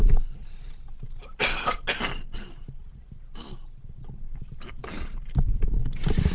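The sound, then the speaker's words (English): Muffled handling noises as someone takes a drink and pulls off a headset: rustles, soft thumps and a few sharp bursts like brief coughs from a scratchy throat, with no talking. “I'm just gonna have a little drink here and take the headset off for a moment.”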